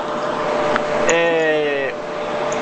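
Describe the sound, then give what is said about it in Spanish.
A loud electric fan whirs steadily, a constant airy drone throughout, with a brief humming tone rising over it for about a second midway. “Ok, se escucha un ruido muy fuerte como... Ah, de un ventilador, será eso.”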